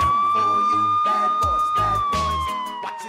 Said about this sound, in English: which means there have been 3 decades of traffic stops, foot chases, drug busts, shirtless drunken ravings on porches, dazed suspects sitting on curbs, and a lot of sirens.